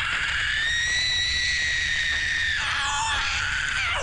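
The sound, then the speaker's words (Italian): A woman's scream, shrill and sustained, holds a piercing high pitch for about four seconds before wavering and bending downward near the end, loud with no talking. “Dopodiché la bellissima donna si irrigidì ed iniziò a sgretolarsi in tanti cocci di ceramica, emettendo un urlo che rese tutte le donne presenti sterili e gli uomini calvi per almeno 4 generazioni.”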